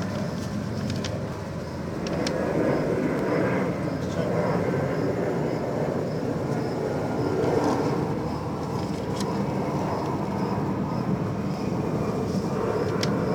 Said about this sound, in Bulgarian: Много самолети имат тук.